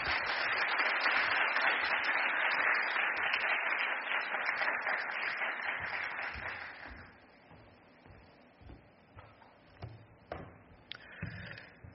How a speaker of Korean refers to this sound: 박수로 한번 환영하겠습니다.